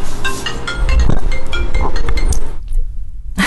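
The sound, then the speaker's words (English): Crystals clink and tap against each other as someone goes through palettes of crystals: a quick, irregular run of bright, ringing knocks over a low murmur, then the clattering stops abruptly before the end. “But what was happening that you were listening to is he was really more interested in going through all the palettes of crystals that he had”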